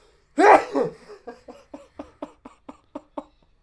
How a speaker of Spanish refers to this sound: Primer estornudo oficial durante el abominable.